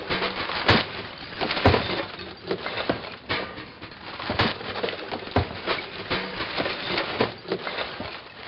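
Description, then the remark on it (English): Compost and recyclables being tossed into a garbage bin: a steady jumble of clatters, clinks and crunching knocks, with sharper glassy impacts breaking through every second or so. No one speaks. “This is the sound of compost and recyclables going into the garbage.”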